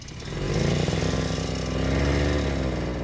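A snowmobile engine runs steadily with a loud, buzzing two-stroke drone and a rough, rattling idle that swells slightly as it revs, with no one speaking.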